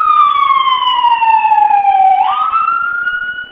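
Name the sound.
ambulance siren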